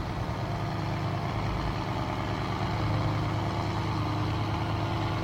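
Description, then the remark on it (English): A shrimp boat's engine drones steadily and loudly throughout as the boat steams quickly away from shore in the middle of the Atlantic. It is a constant low rumbling hum with a broad mechanical roar on top, unchanging from start to finish, with no voices. “We're broadcasting live from a boat in the middle of the Atlantic that's steaming quickly away from shore.”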